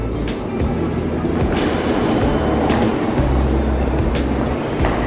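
An RER line B commuter train rumbles steadily through the underground Les Halles station in Paris, a low droning hum with periodic clunks and faint rattling, loud, with a brief murmur of voices in the background.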